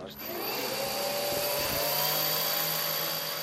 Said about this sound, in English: The contraption lifts into the air and lazily flies away. Six whirring helicopter rotors give it the lift it needs.